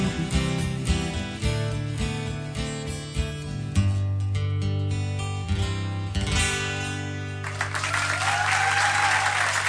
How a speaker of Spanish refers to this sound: Los aplausos, entre otros, para Alejandro Espuntón, que está hoy aquí con nosotros.